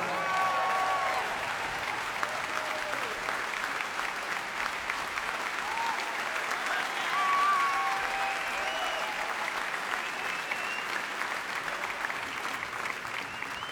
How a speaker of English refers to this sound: I'd like to welcome a very, very special guest onto the stage. Please keep your applause going for Mr. …, ladies and gentlemen.